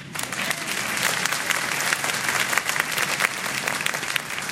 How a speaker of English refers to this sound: Now you can clap.